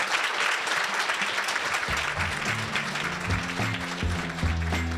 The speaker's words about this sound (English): Thank you very much. You can join me in a round of applause for our speakers.